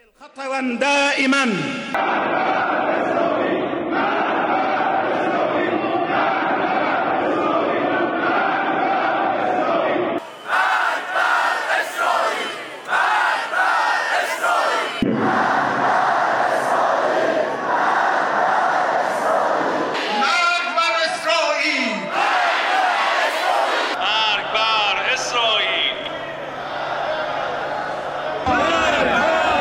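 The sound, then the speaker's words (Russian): A large crowd shouts and chants "Death to Israel" in unison, loud and sustained, with voices swelling in rhythmic waves. The chanting comes in several abruptly cut segments of roaring massed voices. “Смерть Израилю, они кричат в парламенте, на улицах.”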